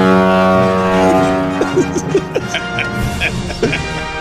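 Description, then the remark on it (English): A deep, loud foghorn blast, played as a celebratory sound effect, drones steadily for several seconds, its low tone holding throughout while scattered voices and short shouts break in over it partway through. “Foghorns!”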